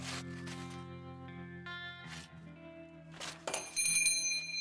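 A shop doorbell above the door jingles brightly near the end as someone walks out into a deserted street, a quick cluster of high metallic chimes following a few soft rustling swishes, all over a low sustained tonal hum.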